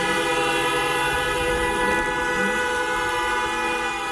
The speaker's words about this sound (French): Alors que sirènes et klaxons retentissent,